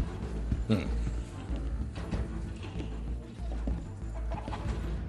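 Chickens cluck in short, irregular bursts over a dense, noisy background, steady in loudness across the few seconds, with faint voice-like sounds mixed in.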